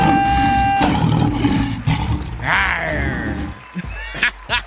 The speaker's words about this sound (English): It didn't sound like a tiger there, son. A tiger? We lions, baby. We lion kings and queens.